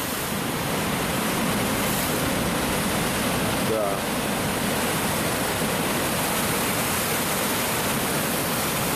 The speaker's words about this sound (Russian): А тут вот на бережку волны.